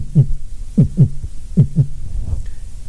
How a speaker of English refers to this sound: Okay? Voices. Your heart. What does it sound like?